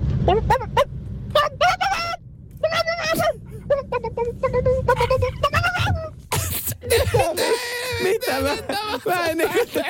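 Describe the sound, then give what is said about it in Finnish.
A voice imitates a rooster from Tampere crowing with a string of strained, warbling cock-a-doodle calls, loud, that rise and break into a longer, wavering squawk near the end. “Tämä on tuota tamperilainen kukko.”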